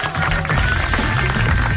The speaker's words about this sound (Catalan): Em quedo! Aplaudiment!